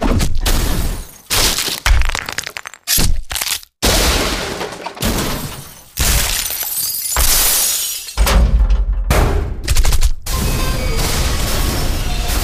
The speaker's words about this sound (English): Effects packs a wallop with over 600 crashes, smashes, hits, falls, and drops, all on one convenient CD. This disc is right on target with arrow and bullet impacts, car and subway crashes, awesome earthquakes, and meteor and mass destruction effects.